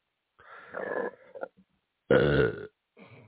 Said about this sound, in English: You okay, boss? Yeah. Needed to get a good burp out.